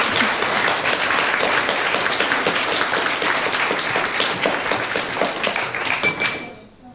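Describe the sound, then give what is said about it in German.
Steady, dense applause from an audience welcoming a group of students presenting a school project, many hands clapping together for several seconds at a fairly loud level before quickly fading out at the end. “Und dieses Glitzern wird Quizlies auch in eure Augen bringen. Applaus!”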